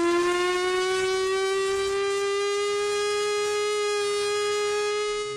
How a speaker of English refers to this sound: But, you know, to remind us what it sounded like, let's go out on the sound of the Chrysler Victory siren.